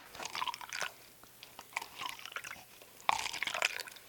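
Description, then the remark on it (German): Sea water laps and sloshes around a small drifting ice floe on the big dark sea, with crisp crackling and crunching bursts coming in irregular waves, moderately loud, with no voices. “Oh Mann, ich habe ganz schön Angst alleine hier auf dem großen dunklen Meer.”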